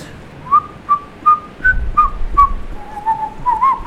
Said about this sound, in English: Perhaps, if I am not there, you will not be reminded of Christmas. I may inadvertently whistle a festive tune.